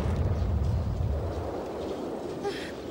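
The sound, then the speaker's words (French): A deep, rumbling explosion rolls out at moderate loudness, its heavy low boom gradually fading over a few seconds into a dull, lingering rumble. “Ça ressemble à une explosion.”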